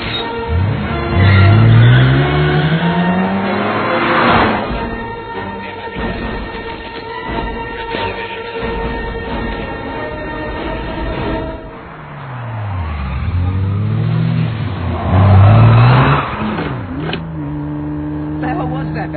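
A car engine revs up loudly and close by, its pitch climbing as it accelerates, then settles into a steady drone before a second strong rev-and-climb near the end.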